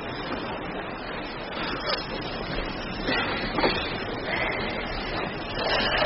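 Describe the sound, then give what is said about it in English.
Ocean waves wash steadily onto a shore as the tide comes in fast, a continuous rushing surf with gentle swells rising and falling every second or two, with no voices. “You'll be cut off! The tide's coming in fast!”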